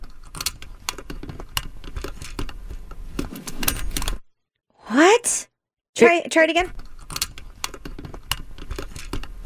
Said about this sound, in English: It sounded kind of like the jingling of keys, but not really. It's the clank of a metal seat belt.